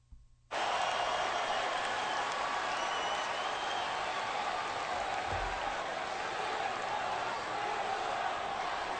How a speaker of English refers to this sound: He knows what he started because now they're all screaming. The crowd is screaming for ice cream bars right now. Look at it.